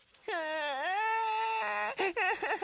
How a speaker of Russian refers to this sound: Не плачь, не плачь. Не нужно, не нужно, малыш.